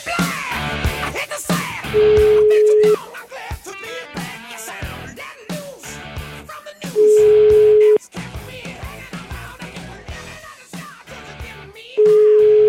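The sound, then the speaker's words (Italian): A telephone line tone sounds three times, each a steady, loud beep about a second long, spaced roughly five seconds apart over busy background music, as the Italian radio show La Zanzara phones a restaurant owner. “il matto fascista, il ristoratore, vai, vai col telefono, vai.”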